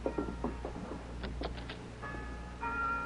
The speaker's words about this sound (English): That's what my ma wants to hear, the mission bell. It must mean the padre has received some cash.